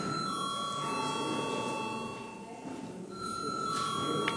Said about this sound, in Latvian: Lūdzu balsot. Deputāti aicina balsot. Lūdzu zvanu.